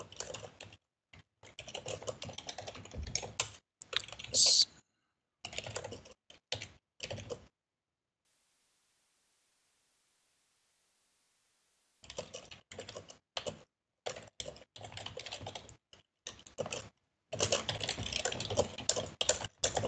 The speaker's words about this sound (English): Sorry, I kind of have a hard time keeping up with the typing.